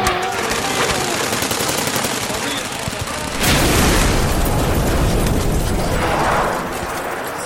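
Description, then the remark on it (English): Rapid bursts of gunfire crackle continuously, then a heavy explosion booms midway, flooding the scene with a deep, lingering rumble as shooting carries on in a dense, chaotic battle soundscape. “You know, after every explosion, a kid starts shivering like hell and never gets back to the person he was before.”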